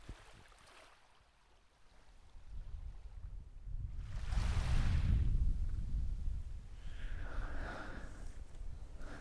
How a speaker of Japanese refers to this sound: 波の音聞こえませんか？